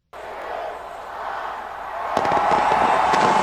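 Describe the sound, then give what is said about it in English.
A steady wash of crowd noise, then from about two seconds a flurry of rapid New Year's fireworks pops and crackles breaks out, growing louder and denser toward the end. “New Year's celebrations continue worldwide with fireworks, parties, and other festivities amidst tight security in some major cities.”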